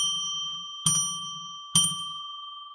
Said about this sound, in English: I'm going to ring a bell three times to get us into sacred space as I pull back the magical curtain on the magical window.